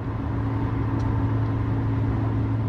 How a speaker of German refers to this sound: Kurz nach Sonnenaufgang verlassen wir Bagdad. Unser Auto arbeitet sich durch einen Checkpoint nach dem anderen in die Außenbezirke.